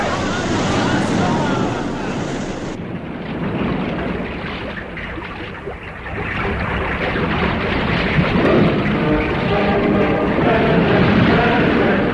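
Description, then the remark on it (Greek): Loud, continuous rush of surging seawater and crashing waves as the sea floods into Alembi Street, turbulent, with a brief shift in tone early on before the churning roar carries on steadily to the end. “Θάλασσα, θάλασσα, θάλασσα, χύθηκε στην οδόν Άλεμπη.”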